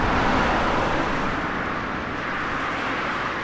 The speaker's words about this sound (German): Laster donnern im brandenburgischen Zossen, etwa eine Stunde südlich vom Berliner Stadtzentrum entfernt, durch die beschauliche Stubenrauchstraße. Eine von Linden gesäumte innerstädtische Allee, Teil der B96